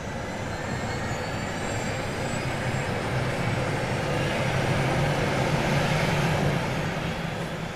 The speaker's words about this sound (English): He starts the helicopter and the blades start turning, slowly, gaining speed with each revolution.